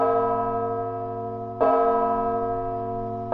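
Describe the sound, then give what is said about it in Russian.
A large church bell is struck at steady intervals by its clapper, which a special device pulls so that each blow has the same force, for acoustic research. About three blows here, each loud clang ringing out into a long, rich, sustained hum that carries into the next strike. “Они сделали для удара языком, чтобы удары были одинаковые, совершенно специальный прибор, такую дергалку, которая дергала за язык, и язык бил все время с одной и той же силой.”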